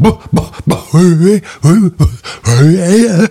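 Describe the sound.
A person imitates a dog's yawn: several drawn-out, whiny vocal glides that rise and fall in pitch, fairly loud, preceded by a few short mouth clicks.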